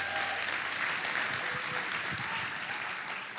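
Sustained applause from a large audience in a church, showing appreciation for a pastor, a dense, even wash of clapping that holds steady at moderate loudness for a few seconds before beginning to taper slightly.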